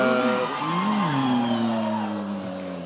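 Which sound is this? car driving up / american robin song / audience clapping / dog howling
car driving up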